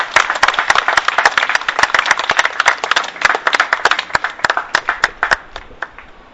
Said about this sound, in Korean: 여러분 큰 박수로 청해 주시면 고맙겠습니다.